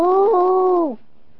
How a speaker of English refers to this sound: That was the sound his dog made up on top, strapped down to the top of the family station wagon on the way to Canada a few years back.